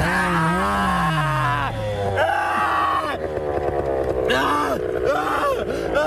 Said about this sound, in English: This guy had a problem. He was paragliding, and this is what his crash sounded like.